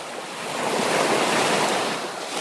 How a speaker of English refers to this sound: Loud sounds of water waves of Lake Victoria, heard from afar, welcome you to Uganda Wildlife Conservation Education Center.